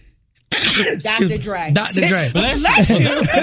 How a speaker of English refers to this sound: I don't think I've ever seen you sneeze in the mic